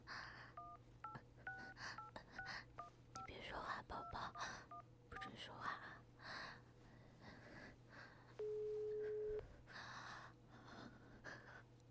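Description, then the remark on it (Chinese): A rapid series of short, clear telephone keypad tones, about a dozen beeps as a woman dials her husband's number, followed by a single longer steady tone, with faint breathy background sounds throughout. “还给她老公打电话。”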